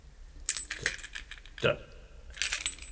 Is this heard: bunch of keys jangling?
yes